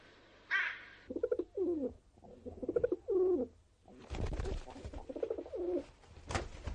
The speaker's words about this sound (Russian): А кто там под крышей воркует тревожно? Да, голуби это.